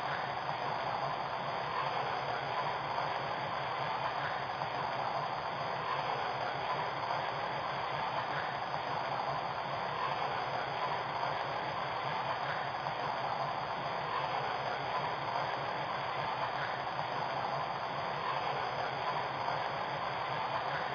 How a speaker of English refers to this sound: Now departing for Washington, North Drive 1, train number 199.